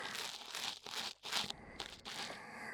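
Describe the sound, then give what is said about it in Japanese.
Soft, dry scratching and crinkling from an ear pick scraping inside the ear, coming in several short bursts with brief pauses between, fairly quiet and with no voices. “耳かきでお兄さんがこんなに気持ちよくなってくれてる。”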